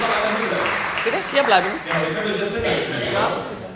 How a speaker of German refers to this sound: Vielen Dank euch, einen riesen Applaus für euer Team.